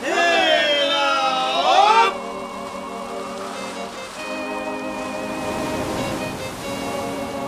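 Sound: stormy sea waves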